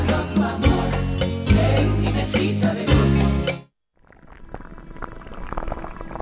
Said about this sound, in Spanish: Si para ti esto es arroz hirviendo, es que tienes el don. Disfrútalo.